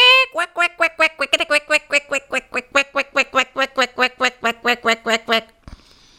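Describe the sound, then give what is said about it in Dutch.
Ducks quack loudly in a rapid, continuous string of about two dozen nasal calls as they rush at a handful of bread thrown on the ground for them, a noisy flurry that stops abruptly near the end. “De eenden duiken er snaterend op af.”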